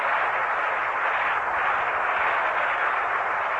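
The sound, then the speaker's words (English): A crowd at a baseball game applauds steadily, a dense crackle of many hands clapping at an even, fairly loud level throughout, with no voices rising above it, as the electric information board shows that the capsule parachute has been sighted. “The round of applause you hear is the information up on the information board here, the electric information board, that the capsule parachute has been sighted.”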